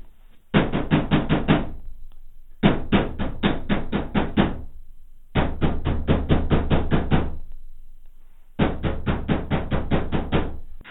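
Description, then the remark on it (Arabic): Someone raps rapidly on a rooftop door, knocking to be let in, in four separate bursts, each a quick run of loud knocks, with short silent pauses between them and no voices. “ألا تسمع طرقات باب السطح؟”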